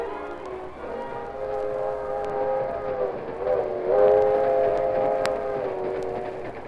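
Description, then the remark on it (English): A westbound train rolls along with a steady low rumble while a long, chord-like whistle sounds over it for several seconds, loud, with no voices. “Britt Reed's father sat near a radio on the westbound train.”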